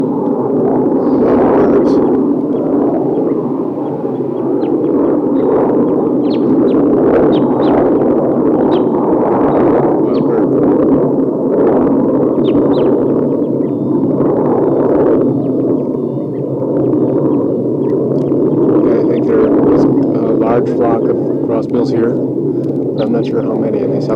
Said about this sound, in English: So recording, I'm down by the tassel birds, and there's a wild crossbill on top of a tall eucalyptus here.